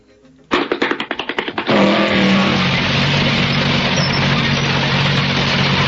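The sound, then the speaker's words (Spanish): A motorcycle engine sputters through a quick series of cranking pulses, then catches and roars steadily and loudly, holding a constant rumble with no voices. “Bueno, y tu chiste se escapó en moto, Juan Carlos.”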